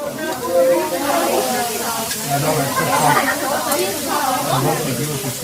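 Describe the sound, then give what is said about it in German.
A gas grill, turned up to cook "Feuerfleisch" meat along with many side dishes, hisses steadily with a broad, continuous rush that never lets up, while several people chatter indistinctly in the background throughout. “Wie man gehört, ist in der Zwischenzeit der Grill für unser Feuerfleisch aufgedreht worden, zusammen mit ganz vielen Beilagen.”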